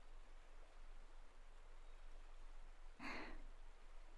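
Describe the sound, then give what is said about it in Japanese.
Gently flowing stream water murmurs steadily and softly throughout, a faint continuous rush with one brief, brighter splash or gurgle near the end. No voices are heard. “聞こえてきませんか？水の流れる、心安らぐ音が。”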